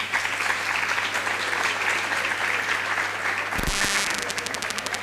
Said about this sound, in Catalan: Així que un aplaudiment també per a ell.